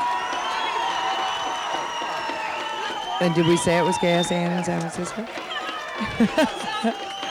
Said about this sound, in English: The crowd's humming away here. It's hard to see the route that they're going to be coming from, but they should be slipping through here in a second.